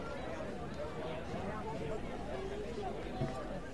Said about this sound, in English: Plus, you can hear in the background a junior high track meet going on next door. So, lots of stuff going on here in Greenville.